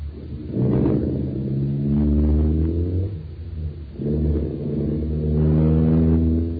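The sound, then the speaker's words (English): A car engine runs loud, revving up in several rising surges with brief dips between, the low rumble climbing in pitch each time as it pulls away. No voices. “All right, Danny, get it started.”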